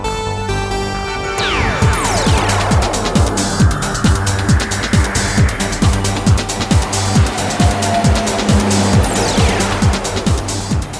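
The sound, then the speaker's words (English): A loud, busy radio traffic theme jingle from a 2010 jingle package, with steady musical tones and a driving beat, layered with whooshing car pass-by sweeps at the start and near the end, no voices. “Traffic theme.”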